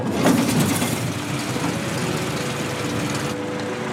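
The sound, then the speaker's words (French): A car engine catches with a brief, louder burst, then settles into a steady, even idle with a low droning hum and a rough, noisy rumble. “Vous avez trois pédales, celle-ci pour freiner, celle-ci pour accélérer.”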